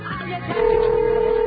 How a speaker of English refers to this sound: Okay, the phone's ringing again.